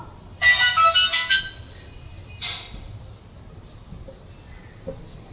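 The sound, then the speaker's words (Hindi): A mobile phone ringtone among an audience at a spoken discourse chimes in a bright, melodic burst lasting about a second, then sounds again briefly after a pause, fairly loud against a quiet hum. “जरा सा आप सब सेल फोन बंद कीजिए, सबके पास सेल फोन है, बंद करो जरा सा।”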